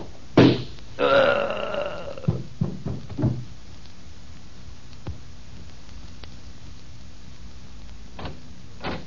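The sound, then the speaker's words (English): A gun fitted with a silencer is fired in the radio drama Boston Blackie: a sharp, muffled pop rings out, followed by a brief groaning sound and several soft thuds and knocks, then quiet with a couple of faint clicks. “Hey, boss, what are you fiddling with that gun of yours for? I'm putting a silencer on it.”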